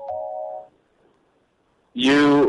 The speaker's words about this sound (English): I'm calling you from my cell phone. I have call waiting. It sounds like that. I have an Android phone. I have an Evo, and it makes that noise.